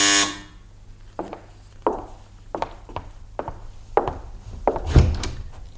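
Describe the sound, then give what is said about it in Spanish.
A short, loud electric buzz of a doorbell pressed at the entrance of Swanee's house sounds at the very start, followed by a steady series of dull wooden thuds, roughly one every second, with no voices. “Se acercó a la entrada y pulsó el timbre.”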